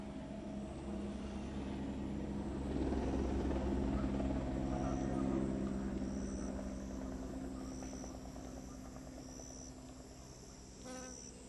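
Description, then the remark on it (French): A steady, loud rotor drone from gendarmerie helicopters arriving at a gold-mining well site throbs throughout, with faint, regularly repeating insect chirps rising above it in the background. “Donc ils ont arrêté de travailler quelques minutes avant notre arrivée parce qu'ils ont entendu le bruit des hélicoptères.”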